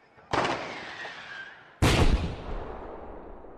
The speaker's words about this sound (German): Und dabei stellt man also fest, das ist also die Knallerei.